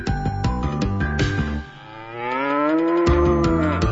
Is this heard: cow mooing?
yes